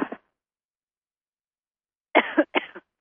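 A brief cough at the start, then after a long silence a burst of three harsh, close coughs in quick succession, fairly loud and with no talking.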